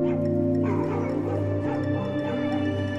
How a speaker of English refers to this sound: The dogs bay again.